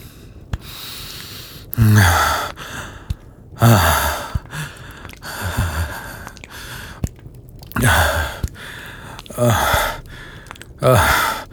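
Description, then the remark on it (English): Heavy breathing: a series of loud gasping inhales and sighing exhales repeating every couple of seconds, with no talking. “You're breathing.”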